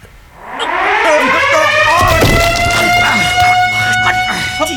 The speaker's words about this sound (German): Die Alarmanlage, wir müssen abhauen.